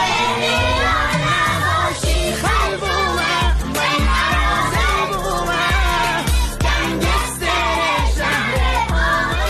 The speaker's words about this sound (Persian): یک ترانه رو که این روزا تو فضای مجازی پرطرفدار شده برای بچه‌های کلاسش پخش کرد و اونها هم همخونی می‌کردن.